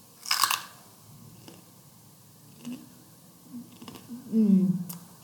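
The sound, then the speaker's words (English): A sharp, loud crunch as someone bites into a raw green pepper, followed by a few quieter chewing crunches and a brief low murmur from the eater at the end. “Now I'm going to try my pepper. Listen to the crunch.”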